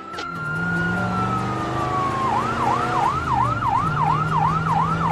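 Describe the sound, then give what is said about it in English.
A fire truck siren blares loud, a long wailing tone sliding slowly downward before switching to a fast, repeating whoop, with a deep engine rumble underneath. “fire truck, Alice. And the letter F is on the fire truck.”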